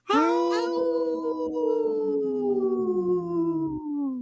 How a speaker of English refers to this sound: Yesterday's was a really good howl, too. That was a good one.